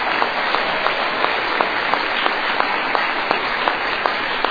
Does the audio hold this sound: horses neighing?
no